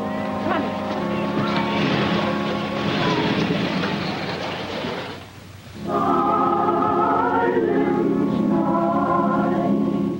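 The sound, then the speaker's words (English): A steady engine rumble runs with broad hiss, dips briefly, then returns as a stronger humming drone with clear tonal overtones, as a car pulls up beside a school at night to park. “A car pulls up beside a school.”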